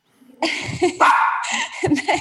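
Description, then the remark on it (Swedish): A dog barks and yips in the background in a quick run of sharp, excited bursts, moderately loud, with a few whiny, whimpering tones mixed in and no talking. “Nej, nu hörs min hund där i bakgrunden.”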